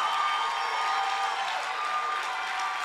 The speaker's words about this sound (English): Put your hands together. Let's welcome the prophets, our daddy, our pastor. Keep clapping your hands.